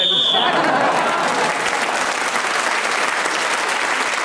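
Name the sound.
referee's whistle blown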